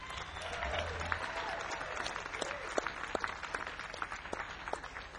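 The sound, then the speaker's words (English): A concert audience applauds the band steadily for several seconds, a dense wash of many hands clapping with a few sharper claps standing out, moderately loud. “How about a nice round of applause for these fellas, huh?”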